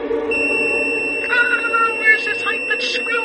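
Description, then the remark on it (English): A piercing high-pitched radio signal from a black monolith on the moon, sent upon seeing daylight, kicks in after a brief moment and holds as a steady, unwavering, loud electronic whine, with muffled voices murmuring beneath it. “Upon seeing daylight, the monolith sends a signal that intelligent life has reached the moon.”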